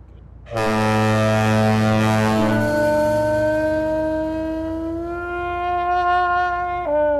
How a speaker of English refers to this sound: Well, a lot of you recognize the sound of those foghorns. We even got a call from a listener in Minnesota who knew what they were.